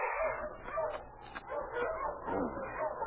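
sled dogs barking

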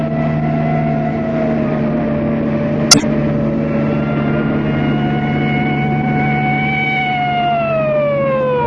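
police car siren

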